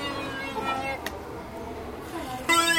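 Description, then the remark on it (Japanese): A children's toy noisemaker stick sold in a shop gives off a steady, buzzy horn-like tone that holds for a few seconds, with a brief click partway through and a louder, brighter burst near the end. “ただ音が鳴る、音が鳴る棒。”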